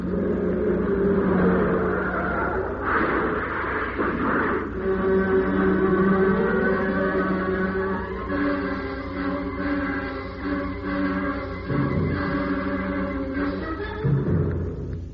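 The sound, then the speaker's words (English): A car engine drones loudly throughout, broken early on by a short burst of crunching impact noise as the speeding car hits the rear of a big lorry slewed across the lane with a glancing blow, after which the engine hum and tonal whine carry on steadily with no one speaking. “We hit the rear of it with a glancing blow,”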